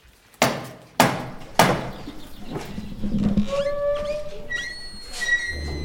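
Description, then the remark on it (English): Three loud, evenly spaced raps of a door knocker at Blickling Hall ring out just after rain has let up, followed by quieter outdoor ambience with high, thin bird-like chirps and whistles. “why don't you knock on the knocker for us”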